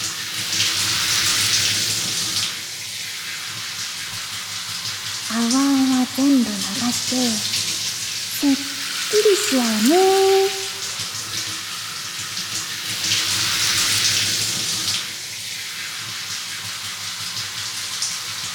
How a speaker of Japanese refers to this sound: そろそろ泡流すよ。シャンプー目に入らないように気をつけてね。